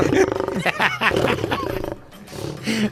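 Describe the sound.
A person voices a growling, rasping lion-like roar, mixed with laughter, in a few rough bursts that rise and fall for about three seconds before a final gravelly growl.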